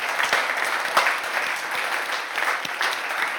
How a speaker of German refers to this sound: Und freuen wir uns über so fantastische Musiker unter unserer Reihe und geben ihnen gerade einen Applaus. Danke vielmals.